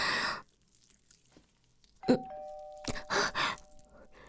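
A doorbell rings once partway through, rung by a food delivery at the door, its bright chime tones ringing out and lingering while a few soft rustling bursts of noise follow, after a quiet stretch.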